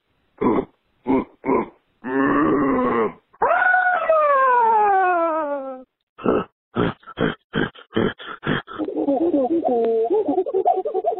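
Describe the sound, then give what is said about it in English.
A man's voice imitates King Kong, letting out a series of short, deep grunts, a long sliding roar that falls in pitch, then more rapid grunts and a warbling growl. “Here's my King Kong grunt.”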